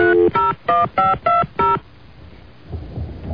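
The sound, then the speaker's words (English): A quick series of six touch-tone beeps as a cell phone number is dialed, evenly spaced and fairly loud, followed by a quiet pause and a low background rumble. “Call his cell phone.”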